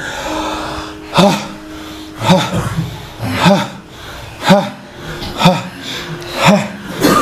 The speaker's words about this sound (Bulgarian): Сега за малко влез в онова дишане. Дълбокото дишане. Бастрика дишане. Сега.